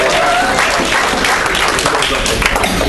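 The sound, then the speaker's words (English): An audience applauds together, a dense, steady wash of many hands clapping at once, loud and continuous for the full few seconds with a faint murmur of voices mixed in. “How about we give a round of applause?”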